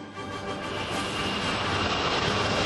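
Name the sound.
jet aircraft flying overhead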